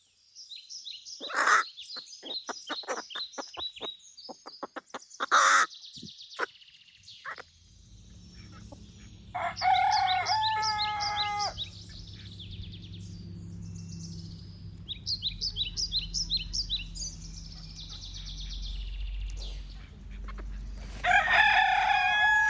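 A crow that lives among chickens gives a long run of rapid, chicken-like cackling calls, loud, in repeated bursts over a low rumbling background hum.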